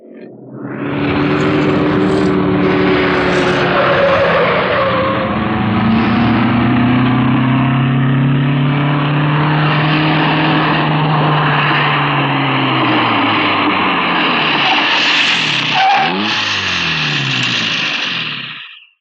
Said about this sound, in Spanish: Ese antiguo auto debería estar deshecho. Y es al contrario, estimado socio. Se aleja. Se nos va perdiendo. Es inútil ya.